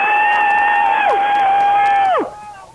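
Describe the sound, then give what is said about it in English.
Several phone-in callers, all on the air at once, scream together in one loud, sustained, steady-pitched wail for about two seconds. One voice drops away midway, and the rest slide down in pitch and cut off. “Everybody scream at once. You're all on the air.”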